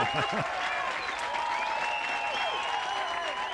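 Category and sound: crowd, concert crowd applauding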